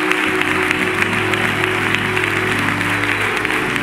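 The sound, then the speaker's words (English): A large audience claps steadily and warmly, giving God thanks for their pastor, the Reverend Dr. Howard John Wesley, a dense wash of applause with a few faint voices and murmurs mixed into the ongoing clapping. “That applause means something extra sweet and special as we enter the month of September.”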